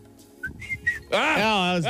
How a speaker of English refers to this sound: That was better. You did make a whistling. Do it again. Do it again.